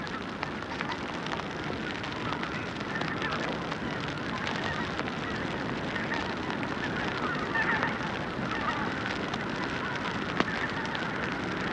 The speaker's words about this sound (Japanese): 辺りを散策していると田んぼの野焼きをしていました。今まで遠くでしか見たことがなかったので、マイクを近づけて録音を試みてみます。思った以上に結構な火力です。